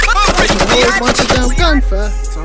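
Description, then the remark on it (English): A rapid, loud burst of gunfire, roughly a dozen sharp cracks in quick succession, set against a musical backing with a melodic voice. “It's a whole bunch of damn gunfire.”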